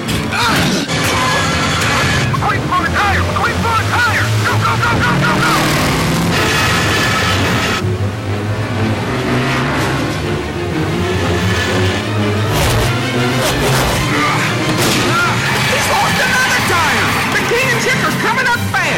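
The race car Lightning McQueen's tire bursts with a sharp bang with one turn to go in a race, followed by flapping rubber and engine roar, all buried under loud, dense orchestral music that plays throughout.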